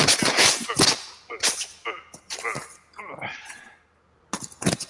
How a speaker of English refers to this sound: that paper in the mic. I know. It's because the paper is right here. So I can't let you guys see.